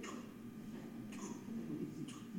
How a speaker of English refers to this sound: And what's the only thing in the waiting room, besides the receptionist, is a clock on the wall. And it's one of those clocks that's loud.